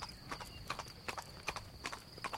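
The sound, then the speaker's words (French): Hooves of a black horse, ridden by a hussar officer of the King of Sardinia in full uniform, clip-clop on the road up to Mont-Genèvre from the Cesana side in a steady walking rhythm, each step a sharp, moderately loud knock, with no voices and only a faint high hiss behind. “sur la route d'Italie au Mont-Genèvre, vit monter du côté de Cesana un cavalier qui semblait un épidore sur un cheval noir.”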